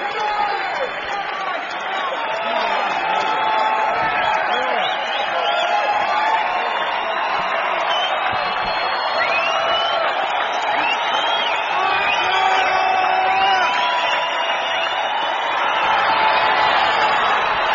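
A large concert audience claps and cheers continuously for an encore after the performers walk off stage, with shouts and whoops rising over the dense roar of applause, sustained and fairly loud throughout without any break.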